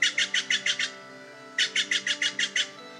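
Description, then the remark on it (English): Steller's jays, flying all around the area, give two quick bursts of harsh, raspy calls, about six notes then eight, loud and rhythmic with a short pause between series and no talking. “While I was preparing to try the trick, Stellaris Jays were just going off, flying all around the area.”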